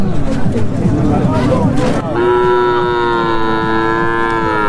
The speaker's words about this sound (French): Jour de transaction au marché de bétail de Kaya. Ce gigantesque parc animalier renferme entre autres des bœufs, des moutons et des chèvres dans des enclos ou attachés les uns aux autres.